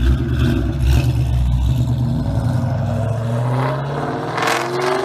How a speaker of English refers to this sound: fourth gen Mustang GT would be introduced in 1994 and offer the option of a 5 liter small block V8. With, again, the displacement actually being 4.94, but I guess that doesn't sound as cool as 5.0. This engine was good for a healthy 215 horsepower.